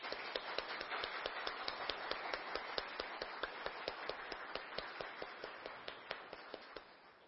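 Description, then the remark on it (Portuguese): A crowd applauds the city councillors who support the community health and endemic-control agents, a dense wash of clapping with sharper individual claps popping out of it at a fairly even pace, no voices heard. “Palmas para todos eles.”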